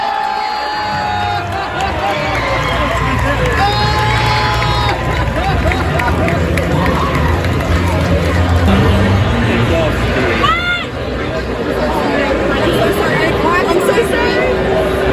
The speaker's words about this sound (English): So you heard the crowd go, ah! And that was her saying so sorry as she's leaving?